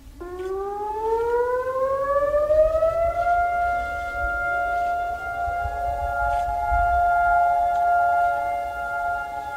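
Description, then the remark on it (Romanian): A nationwide memorial civil defense siren, sounding across all of Israel at 10 o'clock for two minutes, wails steadily, its tone rising at the start and then holding a long sustained pitch, loud and continuous against a low rumbling background, with no voices. “După cum transmite Dragoș Șocârlan, în Israel, la ora 10, sirenele s-au auzit în toată țara timp de 2 minute.”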